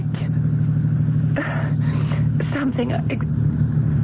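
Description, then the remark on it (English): A car engine runs steadily throughout, a constant low rumbling drone, while indistinct voices speak over it. “There was nobody but me in the car when I got in.”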